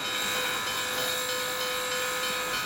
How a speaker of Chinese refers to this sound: 汽笛响起，一股蒸汽冒过，火车徐徐驶离。